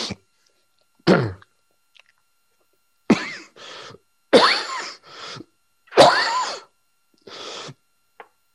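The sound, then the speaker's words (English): A person with a cold coughs repeatedly: a sharp single cough, then several harsh, loud bursts, some in quick pairs, separated by short pauses. No talking. “And a cough.”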